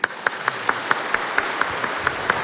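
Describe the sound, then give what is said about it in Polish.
An audience at a Mass in a sanctuary applauds after a letter signed by Archbishop Wacław Depo of Częstochowa is read, in steady, rhythmic unison, with sharp claps landing at an even pace over a dense wash of hand-clapping. No one speaks. “Bijemy brawo.”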